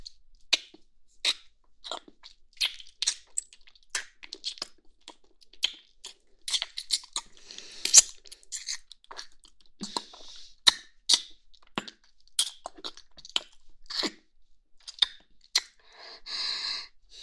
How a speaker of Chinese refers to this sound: 当然是想亲亲我的宝贝了。来，让妈妈亲亲你。